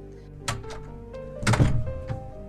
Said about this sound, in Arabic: خليني افتح الباب.